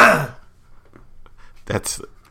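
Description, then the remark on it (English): A person clears their throat with two rough, raspy bursts, one at the start and another shortly after a brief pause, fairly loud. “Let me clear my throat.”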